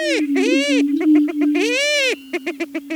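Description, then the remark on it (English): Greater prairie chickens whooping in courtship displays on restored American prairie in spring, in a soft morning breeze: a loud, steady, hollow moaning tone with swelling overtones, then a rapid series of short, evenly spaced pulsing hoots. No voices are heard. “Greater prairie chickens whoop in loud courtship displays.”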